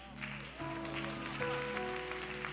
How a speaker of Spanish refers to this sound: Si este aplauso es para el Rey, déselo con todas sus fuerzas. Vamos, dele ese aplauso a Dios